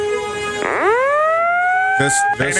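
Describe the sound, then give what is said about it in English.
A loud alarm siren sweeps up from a low tone into a high, sustained wail that holds steadily, with a couple of brief choppy bursts breaking in near the end. “Let's just go ahead and ring the alarm.”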